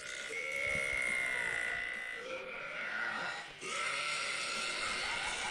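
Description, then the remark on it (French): A woman's long, loud burp blended with a yell, harsh and raspy with a wavering, bleat-like pitch. It holds for several seconds, breaks off briefly, then surges again. “Non mais attends, oui, tu rotes et tu fais « Ah !» en même temps, c'est pas un ro fort, c'est juste que tu hurles en même temps.”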